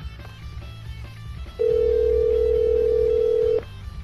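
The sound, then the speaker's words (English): A telephone line rings with one long, steady electronic tone lasting about two seconds as a call is placed, fairly loud, over a low background hum. No one speaks. “So let's get them on the phone.”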